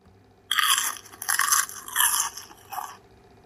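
Loud crunching of crispy mouse tails being eaten by Wilbur in Winnie's Bubble Trouble, with about four crackly bursts in an uneven rhythm and no voices.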